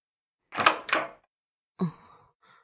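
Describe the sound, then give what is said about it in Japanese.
A door is opened: two short scraping, rattling bursts, then a solid thunk after a brief pause, followed by a faint trailing creak. No one speaks. “申し訳ありませんが、この扉を開けてはいただけませんか。”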